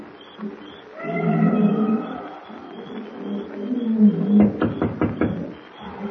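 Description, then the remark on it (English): A steady high insect drone from a matted jungle after dark runs throughout while nocturnal beasts bay and howl in long, wavering harmonic cries, ending in a quick series of loud grunting pulses. No voices. “The matted jungle is alive with the hum of insects and the weird baying of nocturnal beasts as Kent approaches Pango Pete's broken-down shack near the native quarter.”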